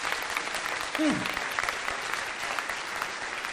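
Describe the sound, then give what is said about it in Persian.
A steady wash of applause from a small group, dense clapping filling the whole stretch at moderate loudness, with a brief vocal whoop or sound rising near the start. “باریکلا باریکلا، تشویقش کنیم، مشاهیم.”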